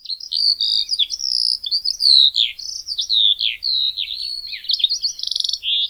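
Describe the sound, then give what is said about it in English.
Eurasian skylark song pours out in a continuous, high-pitched stream of rapid trills, warbles and whistles, loud and unbroken for several seconds with no talking. “mainly because of their beautiful song, which is a complex series of trills, warbles, and whistles.”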